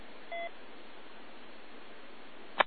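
A short, mid-pitched beep from the Radio HW broadcast, received on an FT100 radio, sounds once over steady radio hiss, followed by a quiet stretch of hiss and then a sharp, brief click at the end. No one speaks.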